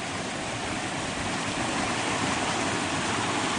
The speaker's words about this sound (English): We'll go down the creek. All these big rocks were in the way here. At one time I moved all of them and made a little pathway down here so she could go down and see the creek. She loves this creek. There's a waterfall.